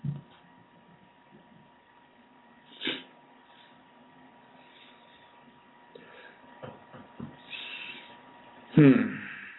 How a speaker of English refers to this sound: Well, I thought I had to sneeze for a minute. I think I did.